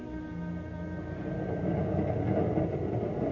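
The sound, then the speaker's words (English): A transcontinental passenger train with a club car runs steadily on the rails in December 1941, its low mechanical roar swelling slightly louder partway through, with faint humming tones over the continuous clatter and no voices. “One day in December 1941, a blue-eyed, ruddy-faced, silver-haired, medium-tall man entered the club car of a transcontinental train.”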